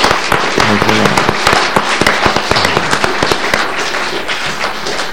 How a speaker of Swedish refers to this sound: They did a wonderful job. De har gjort ett underbart jobb. Let's give them a good hand. Vi ger dem en applåd.